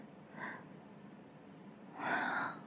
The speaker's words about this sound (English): Bubblegum and peach and rose petals. Sniff.